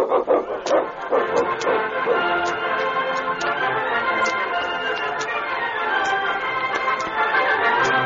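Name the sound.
sled dog team barking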